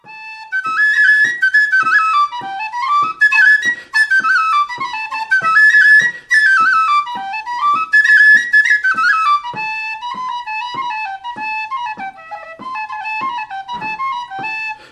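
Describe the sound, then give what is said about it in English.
An Irish tin whistle (penny whistle), a simple six-holed woodwind instrument, plays a lively, ornamented tune alone in the Doolin style, bright high notes running up and down in quick succession with steady rhythmic articulation, fairly loud throughout. “The tin whistle, or also known as the penny whistle, is a simple six-holed woodwind instrument.”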